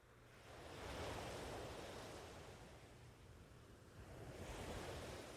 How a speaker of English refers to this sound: But for now, you begin to head back to the sandy shore and sit in just a few inches of water for a while, allowing the gentle waves to wash in and out around your legs.